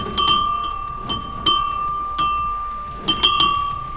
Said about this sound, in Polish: To dźwięk dzwonu kościoła pod wezwaniem świętego Józefa, kościoła z 1791 roku, pochodzącego z Nieboczów, ale w tej chwili znajdującego się w parku etnograficznym w Chorzowie.